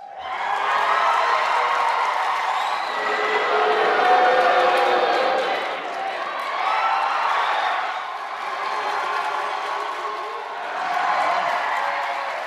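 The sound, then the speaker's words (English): Bernie and Hillary supporters at a debate at the Brooklyn Navy Yard compete in a shout-out, cheering and shouting over one another in loud, sustained swells, rising and falling in waves as rival groups try to outdo each other, with whoops and scattered clapping mixed in. “Can you pick a winner in the Bernie versus Hillary supporters shout-out from that debate?”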